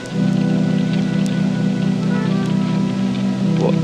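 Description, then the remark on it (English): Steady rain falls continuously, a dense even hiss with a low droning hum beneath it and occasional faint patters, holding at a constant level throughout with no voices. “It's still raining.”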